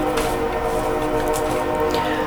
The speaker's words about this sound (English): And of course the train comes by.